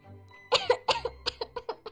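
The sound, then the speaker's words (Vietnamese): A rapid, violent fit of coughing from a consort standing beside others: about nine harsh coughs in quick succession, loud, the first few strongest and the rest tapering into shorter hacks. “Tiên Nga tỷ tỷ ngẩn ngơ tại chỗ, phi tự đứng bên cạnh ho một tràng dữ dội.”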